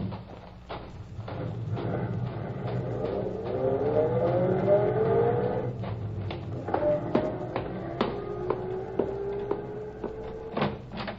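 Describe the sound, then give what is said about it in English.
A car engine starts up and accelerates, its pitch climbing steadily as it pulls off, then shifts gear and rises again, with sharp clicks and rattles scattered throughout and no one speaking. “I thought I saw Dr. Jim's car through the window.”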